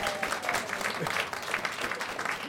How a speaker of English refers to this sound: That's 5 points for spontaneous applause